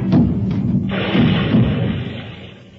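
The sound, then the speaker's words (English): A heavy wooden barrel of beer bumps and thuds down a flight of stairs, a few loud knocks followed by a rumbling crash that slowly fades away. “And once I fell downstairs with a barrel of beer.”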